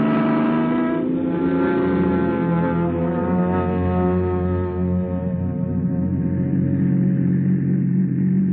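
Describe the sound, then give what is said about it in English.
A car engine drones steadily as the vehicle pulls away at the start of a vacation trip, a deep, buzzing hum holding an even pitch and loudness throughout, with no voices over it. “Vacation, here we come. Come on, car, let's go.”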